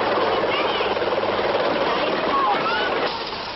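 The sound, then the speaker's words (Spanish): A steady, loud roar of a helicopter in a TV advert for Tulipán fills the whole stretch, dense and unbroken, with faint muffled voices underneath and a slight easing toward the end. “bueno, pues yo me quedo con el helicóptero.”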